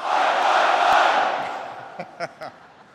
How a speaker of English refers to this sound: Well, I know that you all have a great Australian cheer. I want to hear it. So let me say first, Aussie, Aussie, Aussie.